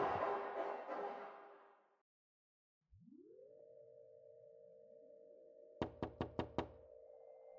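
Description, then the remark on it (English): Five quick, sharp knocks on a door, loud, ring out over a steady electronic hum that rises in after a burst of noise and a short silence. “Victor, open the door.”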